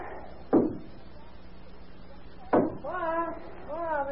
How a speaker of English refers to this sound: There's somebody knocking at the door.